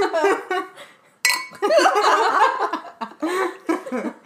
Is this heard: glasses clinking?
yes